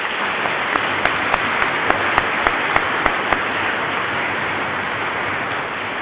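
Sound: church audience clapping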